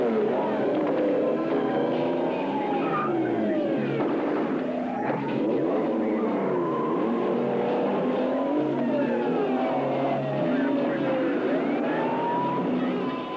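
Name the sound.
car driving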